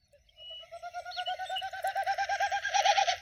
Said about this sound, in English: There was a particularly loud snipe that sounded almost like a horse whinnying.